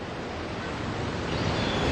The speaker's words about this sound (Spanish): Estamos hablando de Aksibland, que es un país fundado por un solo hombre, cuya bandera es una sirena emergiendo del agua, y este es su himno, las olas del mar.